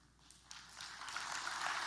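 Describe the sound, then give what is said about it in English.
Applause from an audience swells over two seconds, starting as scattered claps and building into a dense, steady patter of many hands. “You can clap for that.”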